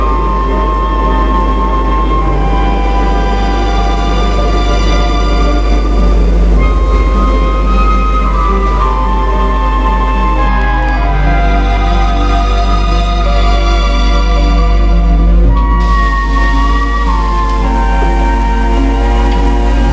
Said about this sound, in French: Le métro se met en route.